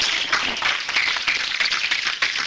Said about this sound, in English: Give God a hand clap of praise for him.